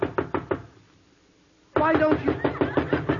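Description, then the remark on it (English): Four crisp, evenly spaced knocks on a door, then a short silence before a louder, faster flurry of pounding knocks that keeps going. “Now, I knock on your door.”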